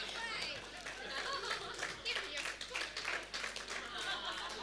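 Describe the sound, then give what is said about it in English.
A crowd claps steadily and continuously, a dense patter of many hands, with cheering voices and chatter mixed in throughout. “Can you clap your hands?”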